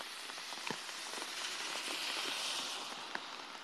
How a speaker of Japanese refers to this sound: やばい、雨の音クソうるさいかも。外歩いてるよ今。家帰るまでちょっと暇だから話すかなと思ったけど、ちょっと雨がうるさすぎるかもしれん。